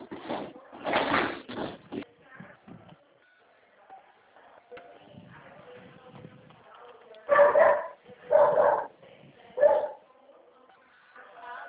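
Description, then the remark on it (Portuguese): An angry dog barks at people passing in the street, in short loud bursts, a cluster near the start and three more sharp barks later, with quieter murmuring and low voices in between. “Não, é que passa a gente na rua e late.”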